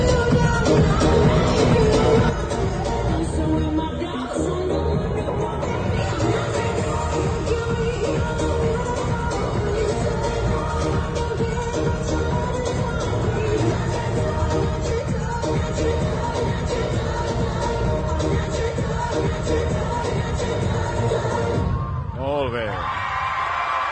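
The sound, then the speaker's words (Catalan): A large audience applauds steadily for about twenty seconds after the last comparsa performs on stage at the Disfressa d'Or costume contest, a dense, loud wash of clapping mixed with whoops, cheers and crowd chatter, fading slightly near the end. “Forces aplaudiments també per part del públic en aquesta última ja la última comparsa que ha pujat sobre l'escenari d'aquesta disfressa d'or.”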